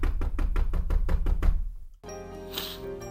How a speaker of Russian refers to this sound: Подошла поближе, но и вблизи домик оказался таким же маленьким. Белоснежка постучала в дверь.